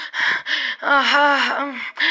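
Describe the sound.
A voice imitates heavy, lecherous panting as on an obscene phone call: harsh breathy gasps, then a drawn-out voiced groan mid-breath, followed by more rasping breaths.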